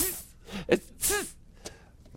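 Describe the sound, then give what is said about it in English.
A small, weak sneeze: a couple of quick breathy intakes, then a short, soft burst with a light voiced edge. It is quiet and brief, with no talking. “That's a weak sneeze.”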